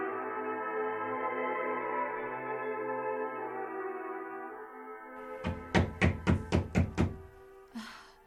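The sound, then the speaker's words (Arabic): A sustained droning tone fades out, then a door's knocker ring raps about six times in quick, even succession, loud, followed by a brief softer sound; Ammar ibn Yasir knocking at the door with its ring. “من هذا الذي يقرع الباب بحلقة لا يقرع بها إلا رسول الله؟”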